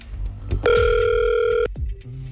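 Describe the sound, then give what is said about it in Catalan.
A telephone number is dialled for a call from Catalunya Ràdio: a loud, steady telephone tone sounds for about a second, then cuts off and gives way to a fainter, lower ringing tone over a low background rumble. “Ja vull marcar el telèfon de la Mercè. Marcant ja el telèfon.”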